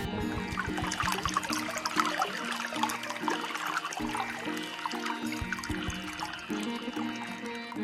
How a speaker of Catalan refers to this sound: Al cap d'una bona estona va trobar una font preciosa, d'on sortia un bon rajolí d'aigua.